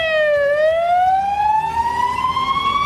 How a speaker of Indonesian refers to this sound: Ambulans melaju kencang di jalan-jalan dan Palang Merah Lebanon meminta dokter dan perawat untuk datang ke rumah sakit dan warga sipil untuk menyumbangkan darah.